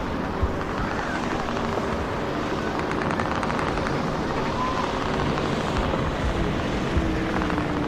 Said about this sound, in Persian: مسلم ماشین رو از جاده خاکی جلو میبره.